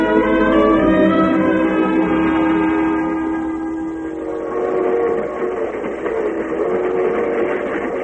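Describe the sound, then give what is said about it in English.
A loud, sustained train horn blares for a few seconds, then gives way to the steady rumbling clatter of a train bound for Midlands rolling along the rails, continuous. “As the train nears its destination, Susan's nervousness grows.”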